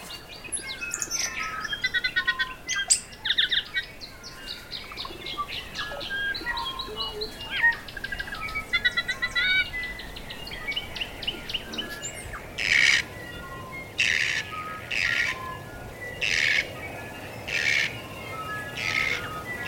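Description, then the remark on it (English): A dense dawn chorus of New Zealand forest birds such as kokako, huia, tui and bellbird, with overlapping chirps, whistles and warbling calls layered together, followed by a series of regular, loud bursting calls standing out near the end. “The kokako, huia, tui, and the bellbird all came together for a resounding dawn chorus.”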